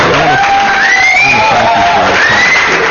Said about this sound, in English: Well, I'll play a different applause for you.